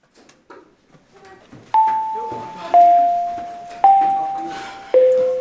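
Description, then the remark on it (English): An electronic school bell at Orchard View High School in Muskegon chimes four evenly spaced, descending notes, each ringing out and fading, as the final bell of the day at 2:30 in the afternoon, with faint background chatter from people. “The final school bell of the day just went off.”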